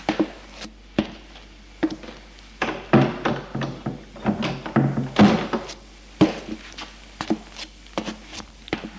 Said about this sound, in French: Il entrebâille la porte, ému, et entre dans l'appartement en refermant la porte derrière lui.